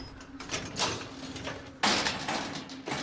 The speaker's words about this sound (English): They walk around to the rear of the van. Jack opens up the doors.